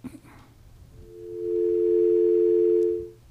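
A steady, continuous telephone dial tone, heard while checking that the phones work, hums loudly and evenly for about two seconds after a brief moment of quiet, then cuts off abruptly.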